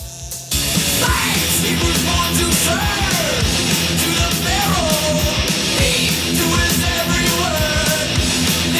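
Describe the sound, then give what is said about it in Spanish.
Loud, dense heavy metal song about the Exodus and the plagues of Egypt, with distorted guitars and pounding drums, a raw shouted vocal cutting through the wall of sound continuously after a brief quieter start. “Bueno, si entre sacas entre tanto grito, puedes dilucidar.”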